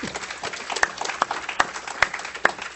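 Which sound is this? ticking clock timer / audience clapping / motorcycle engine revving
audience clapping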